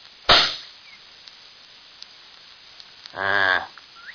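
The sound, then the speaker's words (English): A single loud rifle shot, aimed at the middle of a rock to see where the bullet goes, cracks out and its echo fades quickly, followed after a few quiet seconds by a short, low, droning animal-like call. “Well, I'm going to aim at the middle of that rock and shoot.”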